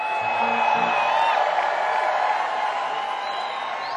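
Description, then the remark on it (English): A large concert crowd screams and cheers in a loud, continuous roar, with high-pitched shrieks and whoops riding over the dense wall of voices for the full few seconds. “You can scream, yeah, come on.”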